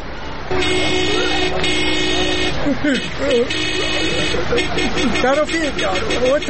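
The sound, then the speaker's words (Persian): Car horns blare in long, sustained honks at a road intersection, overlapping one another amid traffic noise, with voices talking loudly underneath and a flurry of shorter beeps toward the end. “اگه موتر دارین، هر وقت که از چارایی تیر میشین، فکرتان باشه که آرن نکنین که خواب پلیسا خراب نشه.”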